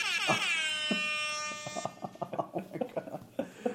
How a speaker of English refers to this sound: Hip hop air horn app, everyone, by the way. Best thing you can do.